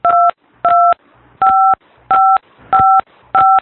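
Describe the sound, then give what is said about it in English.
Six clear keypad dialing tones beep in a steady sequence as a man dials his smartphone, each a short two-pitched electronic tone with brief pauses between, loud, with faint background noise. “He's dialing his smartphone.”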